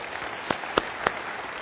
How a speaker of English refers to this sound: Don't clap for Winter Park or Lake Highland. Just kidding.